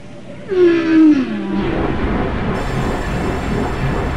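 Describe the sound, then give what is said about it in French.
A single whale call underwater: a loud, tonal moan sliding downward for about a second, followed by a steady wash of low, noisy ocean rumble with no voices. “Les baleines utilisent les sons pour se repérer, pour trouver leur nourriture, pour garder leur petit à l'œil, ou plutôt à l'oreille, et même pour se courtiser.”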